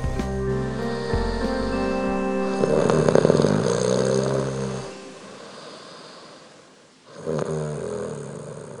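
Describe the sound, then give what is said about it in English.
A loud, rumbling snore drones on for several seconds, dies into a short quiet gap, then starts up again with another throaty rasp. No one speaks. “The funny thing is that you snore too, but I don't mind.”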